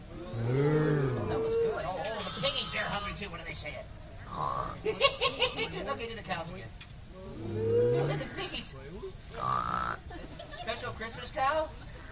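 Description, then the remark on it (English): Cows moo in low, drawn-out, bellowing calls, two prominent ones several seconds apart, amid a busy mix of higher-pitched calls and murmuring voices. “Let's hear some real cows out there.”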